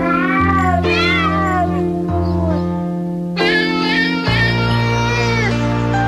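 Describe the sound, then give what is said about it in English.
A cat meows and yowls in long, wavering, drawn-out calls, several in a row, loud, layered over a steady low musical drone with no talking. “Isn't it lovely? Goose pimples already, kitty. Sing it, cat.”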